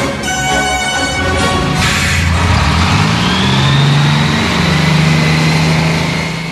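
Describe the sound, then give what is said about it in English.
A bus engine rumbles steadily, with a brief high whine at the start and the motor's pitch rising and settling as it runs, no voices present. “Okay, get on the talk bus, man. There's a talk bus right there, man.”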